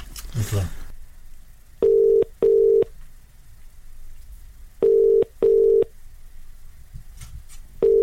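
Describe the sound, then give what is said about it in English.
A telephone ringback tone from a call to a woman's sister, which reaches GiftGaff voicemail, purrs in steady double bursts, two short low-pitched rings, a pause, then two more, with a third pair starting at the end, preceded by a brief rustle. “Let's phone her sister.”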